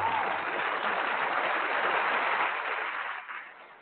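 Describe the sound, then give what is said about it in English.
A burst of applause: dense, steady clapping from many hands that holds an even level for a few seconds, then thins slightly toward the end. No voices. “We'll applaud them.”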